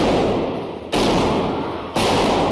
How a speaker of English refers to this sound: Live stream video captures the moment a gunman wearing a dark hoodie emerges from a back pew, drawing his gun and firing inside this Texas church during Sunday morning service.